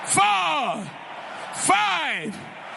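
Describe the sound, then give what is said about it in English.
A church audience shouts glory to the Lord: two loud, drawn-out cries that rise and then fall in pitch, separated by a short pause, with a steady murmur of noise underneath. “Give the Lord 7 shouts of glory.”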